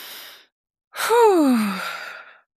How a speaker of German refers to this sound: Wir können ja mal tief atmen kurz.